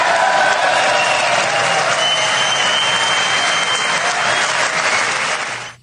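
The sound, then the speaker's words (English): Sustained, loud applause from a large crowd of standing Republicans, a dense steady roar of clapping mixed with cheering after the statement that the first duty of the American government is to protect American citizens, holding level for several seconds before cutting off abruptly. “The standing, the applause, the cheer coming from Republicans.”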